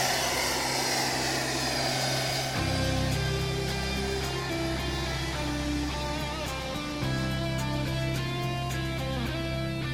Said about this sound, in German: Es geht jetzt dann auch an den Hauptrotor drehen, wie beim rechten Helikopter auch. Man hört jetzt, die Turbinenbau dreht jetzt alle auf. Bis auf 95'000 Umdrehungen. Und der Hauptrotor hat dann rund 1'000 Umdrehungen. Und jetzt fliegt er.